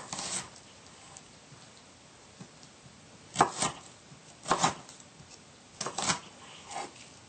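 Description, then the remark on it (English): A knife dicing a small shallot into fairly small pieces on a cutting board: a handful of sharp, crisp chops at an uneven pace, some coming in quick pairs, separated by quiet pauses, with no talking. “Just like the jalapeno, we want to dice this into fairly small pieces.”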